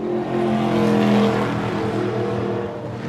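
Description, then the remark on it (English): A NASCAR-style stock car engine roars loudly, a throaty, steady high-revving drone with a slight swell in the middle, filling the whole moment with no voices. The car is being driven on the track at New Hampshire as part of a stock car driving experience. “Driving Experience gives people a chance to either drive or ride along in a NASCAR-style stock car.”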